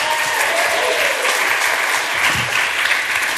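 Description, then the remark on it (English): A crowd claps steadily and loudly throughout, a dense wash of many hands applauding with no pauses or talking over it. “So why don't we give Scott a huge, huge round of applause?”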